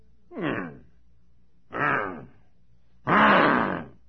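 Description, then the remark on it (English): A person imitates a big old bulldog grunting: three separate rough, throaty grunts, each growing longer and louder, alone with short pauses between them. “And right outside that fence was a big old bulldog just grunting.”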